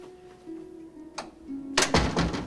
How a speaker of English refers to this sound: Sport closes the door in her face.